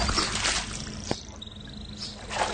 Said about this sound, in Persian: پسر جوان فائقه داره صورتشو با آب حوض میشوره. از لب حوض پا میشه.